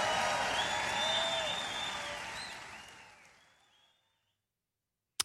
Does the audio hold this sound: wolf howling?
no